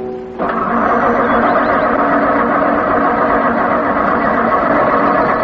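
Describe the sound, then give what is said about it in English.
A car engine cranks loudly without catching, its ignition wet after running through a puddle, a harsh, continuous rattling grind that kicks in abruptly after a brief low hum and churns on steadily without firing. “The ignition must have got wet when we ran through the puddle.”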